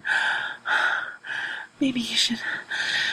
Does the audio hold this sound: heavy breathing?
yes